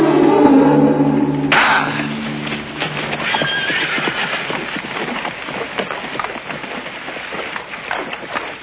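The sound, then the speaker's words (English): A horse gives a loud whinny with a strong harmonic cry, then hooves clop steadily and continuously over a broad, noisy background as the animal moves along. “Why did you put that dead man on the horse?”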